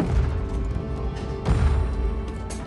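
Heavy, dull thuds of an axe striking a wooden door, with a loud blow partway through and another sharp hit near the end over a rumbling, noisy background.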